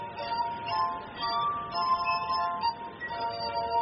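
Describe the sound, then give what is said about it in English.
Glass harp music played by Turner in Alexandria, running his fingers over the rims of different-sized stemmed drinking glasses filled with water: sustained, ringing pure tones that overlap and shift to new pitches every second or so, steady and moderately loud with no voices. “Turner makes music by running his fingers over the tops of the glasses.”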